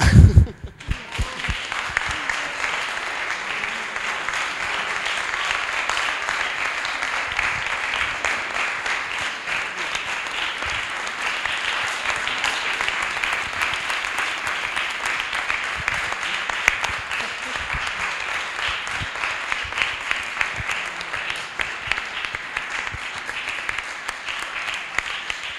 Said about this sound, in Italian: E tanto per iniziare vorrei per questi ragazzi non un applauso ma proprio un'ovazione.